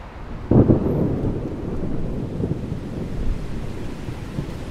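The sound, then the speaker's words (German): A low, rumbling roll of thunder from an approaching thunderstorm swells early and then grumbles on steadily, with a windy, rain-like wash of noise underneath and no voices. “Aber fährt das Robotaxi auch bei Gewitter?”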